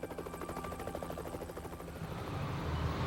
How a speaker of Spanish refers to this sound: Examinaron el lugar centímetro a centímetro mientras helicópteros observaban desde el aire.